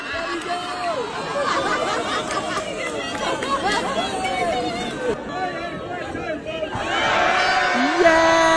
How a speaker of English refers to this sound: And he also recently participated in weenie races, where he was a little slow to start until he got the crowd all cheering for him.